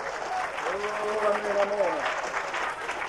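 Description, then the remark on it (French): An audience applauds in a steady, dense patter of clapping, with a sustained voice rising and falling over the applause in the middle of the burst. “Et quand vous applaudissez, pensez que vous tapez sur la tête du diable.”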